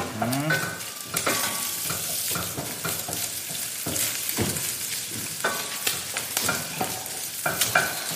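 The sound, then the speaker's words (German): Bacon sizzles and crackles steadily in a hot pan, a dense hiss broken by sharp pops and the scrape of occasional stirring, with no voices. “Je länger der anbrät, desto besser.”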